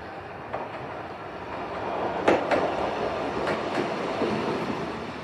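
An electric train, packed full of passengers, rumbles steadily into a station, a broad continuous roar with a few sharp metallic clanks and squeals from the wheels, fairly loud, with no voices.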